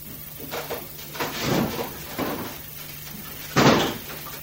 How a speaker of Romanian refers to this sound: Ah, stai, deschide ușa de la terasă. Vreau să cobor puțin în grădină.